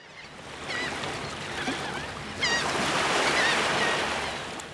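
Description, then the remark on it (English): Shorebirds give repeated high, thin whistling and chirping calls over a steady wash of ocean surf, the calls scattered and overlapping, with no voices present; a U.S. Fish and Wildlife Service recording. “That's a U.S. Fish and Wildlife Service recording of shorebirds.”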